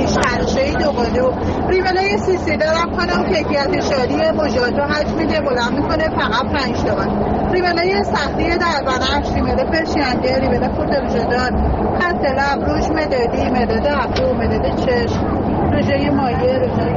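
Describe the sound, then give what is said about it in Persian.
A busy Tehran Metro station in Iran hums with overlapping crowd chatter and a steady rumble of vehicle noise, continuous and fairly loud throughout, with no single voice standing out. “قلب تپنده ترافیک شهری در پایتخت ایران، متروی تهران.”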